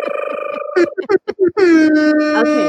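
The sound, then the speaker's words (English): A voice imitates a hip hop air horn: a buzzing, pulsing blast, then a quick run of short staccato honks, ending in one long, loud blare that slides down in pitch. “I like to do a little hip hop air horns just because it's my favorite part of the story.”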